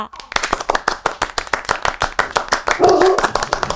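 A group claps for a departing guest in a quick, steady rhythm, sharp hand claps repeating at an even pace and fairly loud. A brief vocal sound or cheer rises near the end.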